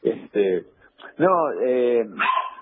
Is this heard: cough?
no